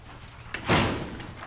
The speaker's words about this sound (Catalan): En Toni surt de l'aula i en Merlí tanca la porta.